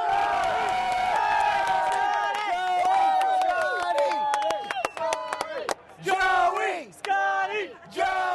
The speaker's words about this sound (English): The crib sheets to which Mediate refers are filled with esoterica shouted at the appropriate moment. A birthday wish to one player, the name of another's dog, or a joint cheer for golfer Scott Hebert and his caddy.